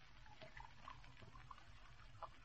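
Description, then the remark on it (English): Coca-Cola pours steadily from bottles into glasses with ice, a continuous gurgling splash with small bright bubbly pops scattered throughout, fairly quiet, with no one talking. “Pour out the Coca-Cola.”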